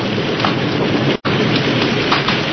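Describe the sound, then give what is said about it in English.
Heavy, steady, torrential wind-driven rain pours down in a loud, dense hiss during a thunderstorm, with a low stormy rumble of thunder underneath and a brief cut to silence midway. No one speaks. “It led them to Phillipsburg, but just as the lights of the town came into view, lightning flared across the sky, thunder crashed, and a torrential wind-driven rain lashed against them.”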